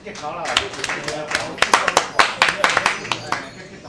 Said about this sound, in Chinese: 请热烈掌声，谢谢。